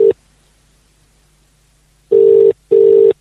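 A phone ringing tone while the call connects: a steady, fairly loud electronic buzz in a double-burst pattern, brr-brr, after a long pause, with no talking.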